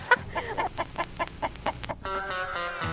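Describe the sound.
Someone imitates a chicken clucking: a rapid, even run of about eight fairly loud clucks, then a longer drawn-out squawking note at the end.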